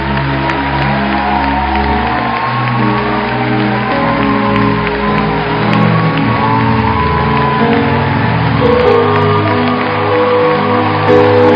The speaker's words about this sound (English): Please, let's celebrate our mother. Thank you, sir. Thank you, ma. Please help them down. Keep clapping till they go down. You've started. Finish it well.